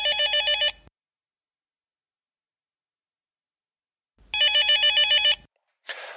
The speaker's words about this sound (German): Nachdem das erste Gespräch abrupt beendet wurde, klingelt das Telefon im Callcenter erneut.